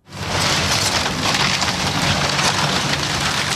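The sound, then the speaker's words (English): A large steam shovel tears into long, low-slung, motel-like wooden rental units on North Bliss Street in the Mountain View neighborhood of Anchorage, producing a loud, continuous crunch of splintering and cracking timber that stays dense and steady throughout, with no voices. “Immediately before the jaws of a large steam shovel began chewing up the long, low-slung motel-like rental units on North Bliss Street”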